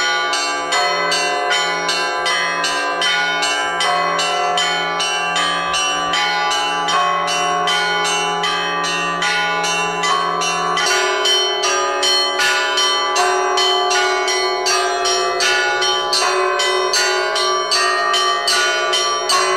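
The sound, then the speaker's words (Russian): Church bells in Sergeevka, Ukraine, peal continuously after a church service and procession, in a dense, overlapping chime, strikes ringing out rapidly and loudly with long resonant tones blending together, no voices present. “Крестный ход увенчал богослужение и деятельной проповедью звон колоколов разнесся по Сергеевке.”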